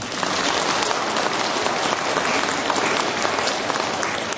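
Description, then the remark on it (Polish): An audience at a regional meeting in Czernikowo applauds in welcome, with a dense wash of many hands clapping at an even, sustained loudness throughout, and no voices standing out. “Brawa dla Was!”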